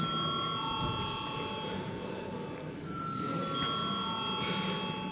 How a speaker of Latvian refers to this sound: Deputāti prasa balsojumu. Lūdzu zvanu.